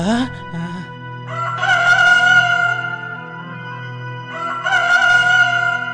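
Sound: rooster crowing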